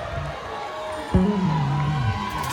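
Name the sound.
audience shouting and cheering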